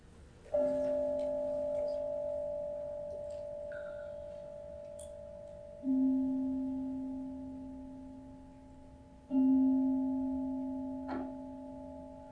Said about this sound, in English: So I'm going to ask Glory G, the master of the bell, to give me three dongs, and then we're going to go into a little closing.